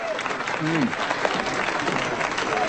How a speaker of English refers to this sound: Here they are, applauding.